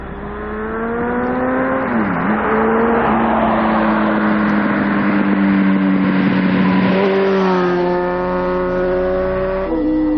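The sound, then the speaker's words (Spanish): Car engines drone loudly and steadily along a rural regional road with a 90 km/h limit, at a bend, their pitch dipping and shifting a few times as vehicles go by, with no voices. “Es una carretera comarcal, es una carretera comarcal donde se puede correr a 90.”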